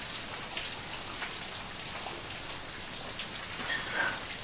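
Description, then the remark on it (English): Steady rain pattering down outside, a dense continuous hiss of drops with no pauses, fairly quiet and even throughout, no voices. “My husband's off somewhere and it's raining outside and we're both drinking now.”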